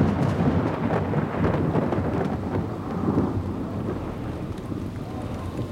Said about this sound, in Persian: بعد 20 سال هوای شهر ابری شد. آسمان شروع کرد به باریدن.